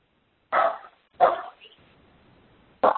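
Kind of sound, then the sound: animal, dog barking in background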